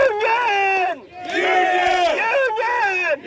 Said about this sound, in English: … led an estimated 2,000 miners from three states in pro-union cheers, starting in the bed of that truck all the way up the street to Patriot's front door.